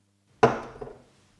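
A wine glass, its wine untouched, is set down on a tabletop with one sharp knock, followed by a softer second tap and a short fading ring. No one is talking.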